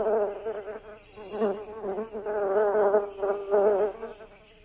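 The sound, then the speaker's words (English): Bees buzzing steadily in a continuous hum, with the drone swelling and fading slightly as insects move around, no voices present. “I hear bees buzzing.”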